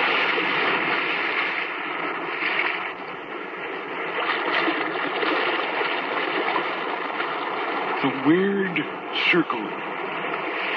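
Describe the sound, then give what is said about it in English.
Restless sea waves wash and roar steadily throughout, a dense, continuous surge with slow swells. Near the end, a couple of brief gliding tones rise over the surf. “Restless sea, we are met to call from out of the past stories strange and weird.”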